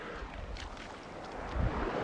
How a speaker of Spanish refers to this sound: Y pues te agradezco por estar aquí, por haberte quedado hasta el final de este momento, escuchando el mar sin el viento.